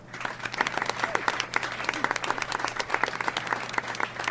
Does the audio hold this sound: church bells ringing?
no